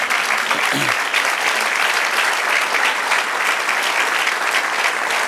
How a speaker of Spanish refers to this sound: Porque es, gracias, dale el aplauso.